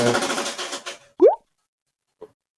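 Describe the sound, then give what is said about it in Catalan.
An antenna system folds itself down automatically after detecting strong wind: a dense, rattling mechanical rush lasting about a second, then a sharp, loud plop with a quick upward swoop, and later one faint soft knock. “No, el que heu sentit, possiblement, ara ho revisaré, és que el meu sistema d'antenes es plega automàticament quan detecta una força de vent superior a...”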